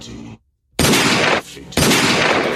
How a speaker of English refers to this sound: Gunshot.